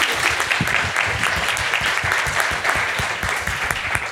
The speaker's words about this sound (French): Et surtout, je vous invite. Allez-y, applaudissez-les, elle le mérite.